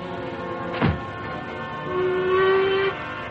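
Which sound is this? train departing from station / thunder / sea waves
train departing from station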